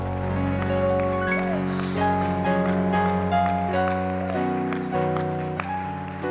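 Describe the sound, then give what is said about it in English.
An audience claps steadily in praise to God during a church service, a dense wash of applause, with sustained organ chords ringing loudly over it throughout. “Why don't you give God a hand clap of praise in the house of God?”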